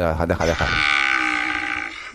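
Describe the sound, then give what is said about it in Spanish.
A cow lets out a single long, drawn-out moo, loud, starting low and holding a steady droning tone for over a second before trailing off. “La vaca muge todavía hasta ahora.”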